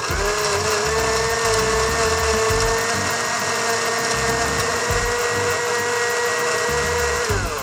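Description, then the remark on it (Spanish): A blender runs steadily at high speed, blending a cream soup made with milk or plant-based drink into a smooth, creamy mixture; its loud motor whine holds constant with a churning, sloshing rumble underneath. No one speaks. “Llevamos todo a la licuadora o usamos una licuadora de mano, lo que tú tengas en casa, y procesamos hasta obtener una mezcla suave y cremosa.”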